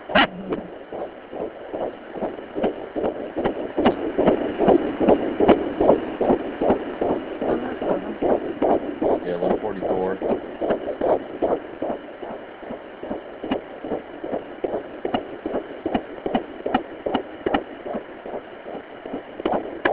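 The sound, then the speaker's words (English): A baby boy's heartbeat on a monitor, about 133 beats a minute, on June 3rd at about 9:14 p.m.: a fast, steady whooshing thump repeating evenly over a constant hiss with no voices. “about 133 beats a minute.”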